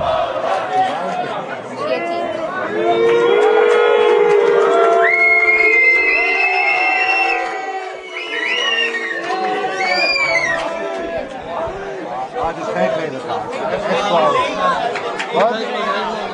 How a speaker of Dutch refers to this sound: Het is 1-1 geworden. De Fransen hebben net gescoord. En dat is een reden voor de supporters van Nederland om het elftal nog even goed aan te moedigen. Maar het zal moeilijk worden, 10 tegen 11.